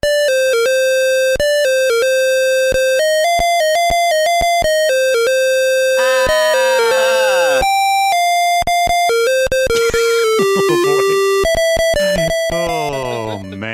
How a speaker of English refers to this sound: The first time this show was released in video game format was 1990 for the PC and Commodore 64. Let's listen to the theme as rendered by the ever-famous PC speaker Harsh Tones.